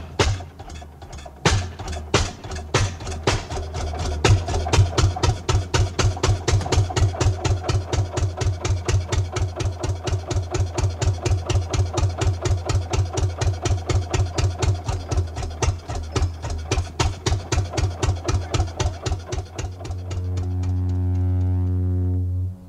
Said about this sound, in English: Then, in the fall, the wood sawyer would be called in to cut the wood to furnace or fireplace lengths. He'd arrive with his horse-drawn wagon, which sported a wood cradle and a belt-driven saw powered by a one-cylinder Fairbanks Morse engine.